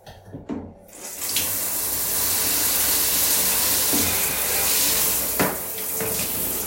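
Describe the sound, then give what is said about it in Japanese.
After a brief quiet start, shower water gushes in a steady hiss, splashing continuously across a wet floor with a few soft knocks along the way, as the soaked floor underfoot is rinsed clean with the shower. “じゃあちょっと足元びちゃびちゃになっちゃったんで拭いていこうと、シャワーで流してきれいにしていこうと思います。”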